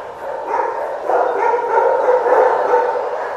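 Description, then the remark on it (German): Many dogs bark and yip together in a kennel in a dense, continuous clamor, the overlapping barks echoing, with no clear pauses throughout. “Morgen geht ein Transporter nach Belgien. Und da werden 23 Hunde gewaschen.”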